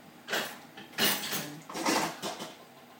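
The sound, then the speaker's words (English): Cutlery clattering and clinking in several quick bursts as pieces are handled and put away, with a bright metallic jangle and no talking. “Cutlery.”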